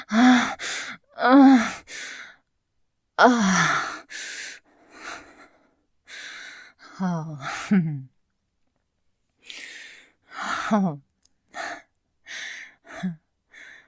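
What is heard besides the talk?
gasping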